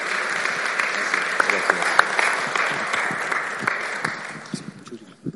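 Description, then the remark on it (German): Sustained audience applause at a church service welcoming a guest preacher, a dense wash of many hands clapping at steady loudness with sharper individual claps popping out, thinning slightly toward the end. “Von daher gebt ihm nochmal einen Applaus.”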